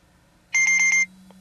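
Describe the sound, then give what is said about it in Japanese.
A kitchen timer alarm sounds a quick, loud burst of about four or five shrill electronic beeps lasting half a second, signalling that its countdown has ended, then stops, leaving a faint low hum. “このような音が鳴ってタイマーが来たことを教えます。”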